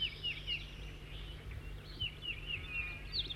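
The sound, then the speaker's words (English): A new bird, number 206 or 207, sings a series of thin, high chirping notes in short bursts over a steady low hum, with no one talking. “New bird before was loud.”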